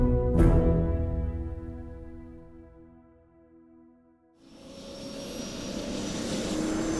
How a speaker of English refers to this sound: On to the chopper! And be quick about it!